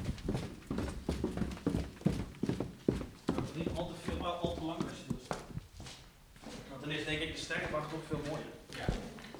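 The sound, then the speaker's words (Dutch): Footsteps of people walking down stairs toward the meridian hall of an observatory, a steady series of hard thuds and knocks, with people talking over and after the steps. “Ja, zullen we naar beneden lopen weer?”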